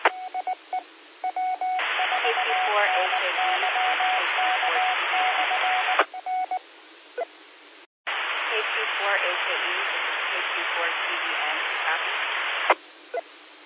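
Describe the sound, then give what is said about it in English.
A narrow, tinny radio transmission over a repeater: short beeps and clicks, then two long stretches of loud hissing static with a muffled but still understandable voice underneath, broken by a brief pause. “There is still a good bit of static in it, but I can understand what you are saying now.”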